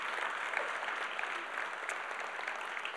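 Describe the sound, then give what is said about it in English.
A crowd gives a round of applause for the kids, clapping steadily for the full three seconds, a dense, even wash of many hands with no break, and no voices come through the applause. “Let's give all those kids a round of applause.”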